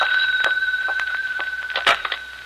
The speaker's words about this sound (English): But then, the next day, as I walked into the house, the phone rang.